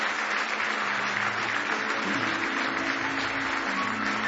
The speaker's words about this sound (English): Give Him one more hand clap of praise if you love Him.